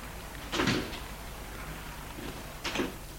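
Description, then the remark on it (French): A car door opens with a brief clunk as a man gets out of a car stopped in front of an apartment building, then about two seconds later thumps shut, against a faint steady background hum, with no one speaking. “Il sort de voiture.”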